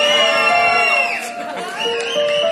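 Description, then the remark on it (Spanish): A large audience shouts and cheers loudly in response, many voices blending into a sustained roar that dips briefly in the middle before swelling again. “Creo que los barranquilleros gritan más duro que los colombianos, a pesar de que son colombianos.”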